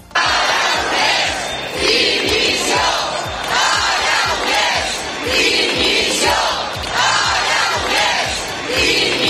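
A large crowd in Girona loudly chants calls for the resignation of Catalan president Pere Aragonès, a repeated slogan shouted in steady rhythmic bursts, with some individual yells rising above the dense, continuous roar of voices.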